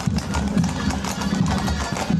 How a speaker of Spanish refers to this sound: El del caminar de los caballos, que escoltarán desde el santuario de Florida Blanca a San Antón hasta su capilla en Los Alamillos a las 11 de la mañana.